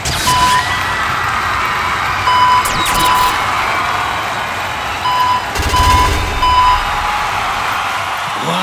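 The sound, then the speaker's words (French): A series of short, steady electronic beeps repeats in small irregular clusters over a constant, noisy background rumble, loud, with no one speaking. “Il a interprété ses plus grands tubes, à savoir ….”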